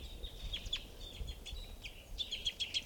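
A single bird gives a series of high, thin chirps and short whistled calls at a water hole, repeating irregularly over a low rumbling outdoor background with no one talking.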